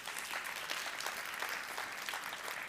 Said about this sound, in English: that round of applause goes to David and Shirley